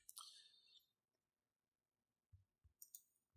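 A few sharp mouse and keyboard clicks as the Alt key is held down and the line between two layers is clicked to clip a hue/saturation adjustment layer in image editing: a crisp click at the start, then after a pause a short cluster of soft taps and another bright click.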